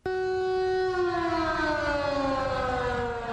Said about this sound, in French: Il est 9h40 en temps universel quand la sirène de l'hôtel de ville retentissait à Ouagadougou et dans tout le pays à travers une synchronisation des stations de radiodiffusion.